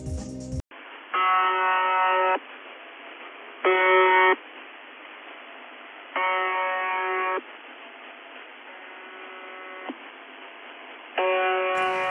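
A harsh, buzzy radio tone repeats in roughly one-second bursts over steady hiss, with one expected buzz missing before the pattern resumes. No one speaks.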